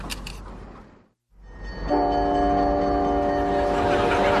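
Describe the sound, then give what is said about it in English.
An Amtrak train rumbles along the tracks, then a loud, steady horn blast sounds and holds over the heavy rolling noise as it moves off. “No, it's my train!”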